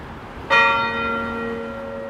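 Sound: church bells ringing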